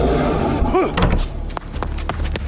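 sound effect, door slamming shut

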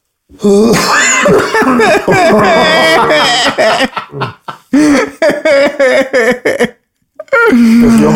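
human body sound, suppressed cough

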